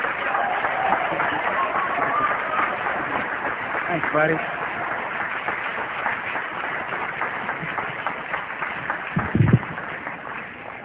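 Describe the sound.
An audience gives a warm round of applause and a Cajun welcome to a speaker coming up to tell his story. The clapping is dense and sustained and fills the whole stretch, with a brief spoken thanks and a couple of louder bumps near the end.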